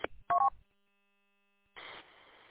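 A short burst of electronic radio tone beeps, a quick two-toned chirp after a click, followed by a second of silence and then a rush of hissing static. No one speaks.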